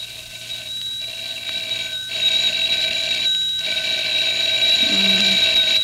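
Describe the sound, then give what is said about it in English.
A telephone rings insistently in Mert's apartment one morning while the girls sleep: a bright, steady high-pitched ring broken by a few short pauses, growing slightly louder toward the end. No one speaks. “Oh, that darn phone.”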